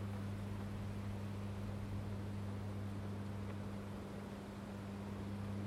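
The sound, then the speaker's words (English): A steady, low electrical hum from a big substation drones without a break, its deep tones constant beneath a soft hiss of outdoor ambience. No one speaks. “Not sure if you can hear that hum.”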